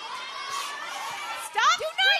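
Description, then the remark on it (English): An audience murmurs and calls out in a steady babble, then several audience members shout over each other in loud, excited bursts near the end, yelling out guesses of a name. “Do not yell it. We will pick another person.”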